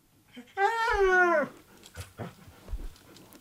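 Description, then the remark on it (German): A dog in an office, on International Office Dog Day, lets out one drawn-out, wavering whine lasting about a second, fairly loud and high-pitched, followed by a few soft clicks and knocks in the quiet office. “warum ein Hund im Büro eine gute Sache ist”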